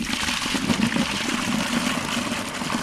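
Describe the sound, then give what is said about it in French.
Water splashes and pours steadily, a continuous rushing, gurgling flow with a faint mechanical hum beneath it, as a woman draws water and some of it spills. “Je suis en train de puiser de l'eau.”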